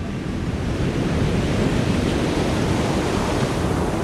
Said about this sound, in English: Imagine a line of brown pelicans flying just above the breaking surf of the coast.